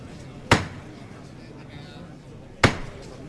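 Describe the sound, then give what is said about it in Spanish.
Two sharp wooden knocks of a hammer signalling the bearers of a procession float during a Lenten Via Crucis in San Julián, spaced about two seconds apart, each a loud crisp strike that rings briefly, over a low murmur of background noise. “Para llamar martillo. Sí, lo escuchamos.”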